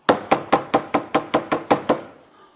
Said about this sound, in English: He goes over and knocks on another door.